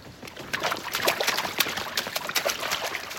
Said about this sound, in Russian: Рукомойники в уборной для девочек расположены кругом в центре помещения. Все краны открыты. Из переполненных раковин на пол льется вода.